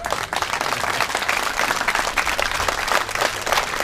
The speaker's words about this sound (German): Wessen Applaus war das jetzt? Zählen wir zu dir.